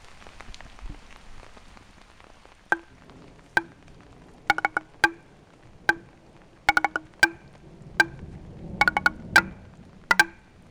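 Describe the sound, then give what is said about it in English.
Improvised xylophone playing on the Ozarkaphone, a curved, arcing xylophone of weatherproof pine made from found and repurposed materials, set in a park: ringing wooden notes struck one at a time and in quick clusters, with an irregular rhythm over a steady rain-like hiss, with thunder; no one speaks. “I'm going to do improvised number one on the Ozarkaphone.”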